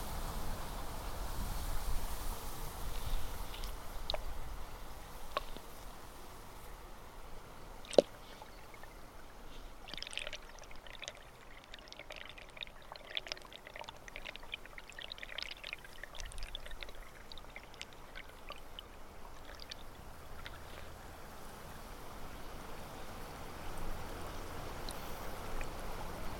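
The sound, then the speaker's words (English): Steady rushing, gurgling water at the slow-running side of a weir, heard both above and below the water, blending airy splashing with a muffled underwater rumble, scattered bright trickles and bubbles, and one sharp knock around eight seconds; no voices. “So you're now hearing both above and below the water.”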